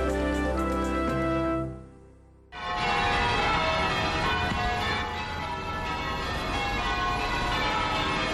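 Church bells ring loudly in Charleston, South Carolina, on a Sunday as worshipers return to a historic African-American church for its first service, their rich tones fading briefly before a fresh, clanging peal bursts in and keeps ringing steadily. No voices are heard.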